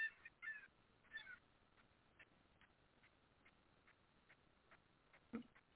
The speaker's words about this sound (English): Those are the seagulls here.